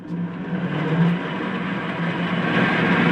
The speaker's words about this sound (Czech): Už po 12 výstřelech by tady bylo nedýchatelno, hlavně kvůli oxidu uhelnatýmu. Proto je tady ruční ventilátor na kliku.